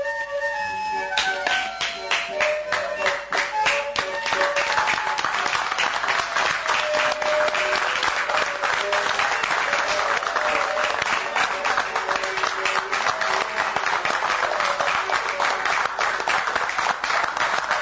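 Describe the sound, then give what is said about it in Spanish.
Sustained audience applause after a performance of the theatre play La de Barranco at Teatro Alianza, a dense, steady wash of many hands clapping at full volume from start to finish, with no break or fade. “Bien, un aplauso cerrado que ahora podemos escuchar.”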